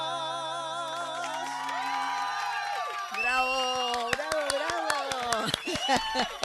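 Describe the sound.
A live song with held sung notes and violin accompaniment fades out, then scattered clapping breaks in alongside whoops and cheering voices from a small crowd, moderately loud.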